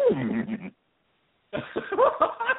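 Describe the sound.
A person's voice imitates a horse whinny in two quavering, bleating bursts separated by a short silence, fairly loud, the second burst stuttering and choppy.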